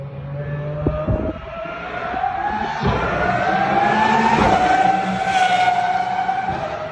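A single big V12 race car engine screams as it passes in the pit lane, recorded on an iPhone, its high, sharp pitch climbing steadily as it revs and accelerates, loud and continuous throughout with no voices.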